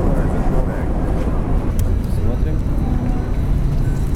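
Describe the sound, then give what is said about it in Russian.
A public tram rolls in toward a stop where a blind woman and her guide dog wait, with a steady, loud, low mechanical rumble that holds for several seconds, while indistinct voices murmur underneath. “К остановке приближается трамвай.”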